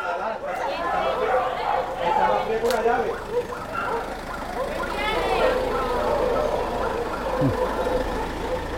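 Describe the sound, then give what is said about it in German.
Several dogs bark in a busy, overlapping jumble as 23 dogs are loaded into a transport vehicle for the journey to their new homes, against a steady engine rumble, with people chattering in the background and occasional clanks. “Es dauert nicht ganz eine Stunde, dann sind 23 Hunde verladen und beginnen die Fahrt in ihr neues Leben.”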